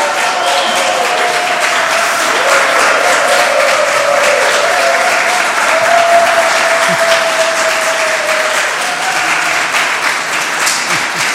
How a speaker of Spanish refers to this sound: ¡Aplausos! Muy bien.